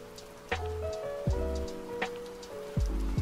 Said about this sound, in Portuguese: O som da chuva, como o da água corrente, toca a gente lá no fundo, dizendo que nós estamos em casa e que vai ficar tudo bem.